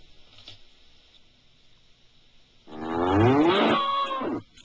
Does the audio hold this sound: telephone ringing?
no